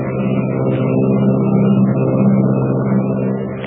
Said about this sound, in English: Is there someone lurking in the tail of the Army plane as it roars through the sky at 300 miles an hour?